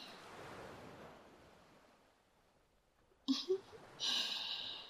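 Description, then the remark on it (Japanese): Gentle ocean waves wash ashore in a soft, steady rush that slowly recedes, followed by a brief rustle and a fresh hissing swell of surf. “ベッドで、二人で横になりながら、ゆっくり波音を聞いてたいなーって思って。”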